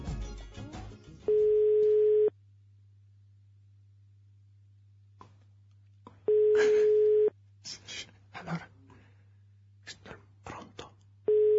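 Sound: telephone call ringing tone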